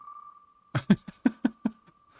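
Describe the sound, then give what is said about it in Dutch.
A prize wheel, started by pressing start, spins to pick a winner, with a steady electronic tone underneath and a run of six sharp ticks that gradually slow before stopping, leaving the tone humming on its own. “Maar we gaan spinnen.”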